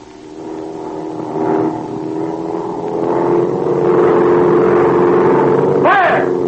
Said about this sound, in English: The plane is swinging in a circle. It's banking. Getting ready to dive.